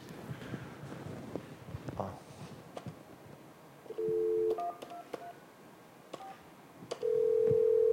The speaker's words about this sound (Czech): Takže já nevím, jak to předvést, jo, ale mám takhle, ukážu, že se volám vlastně z toho jednoho telefonu a zvoní to na tady tomhle. Asi si nezavoláme, protože jsme v jedné místnosti.